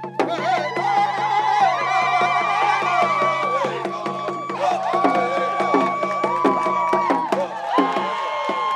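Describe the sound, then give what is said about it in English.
A protest crowd sings and chants loudly together over a steady, rhythmic drumbeat, voices holding long sustained notes with occasional whoops, the whole scene busy throughout, as protesters dance, drum and sing on the pedestal of a removed statue. “And there was, you know, dancing and drumming and singing.”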